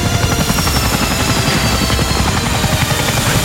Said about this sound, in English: And he lands that chopper there. What kind is that? I'm trying to remember the number, the Sikorsky. It's not a Bell helicopter. I don't think so. I think that's Sikorsky double rotor thing that was...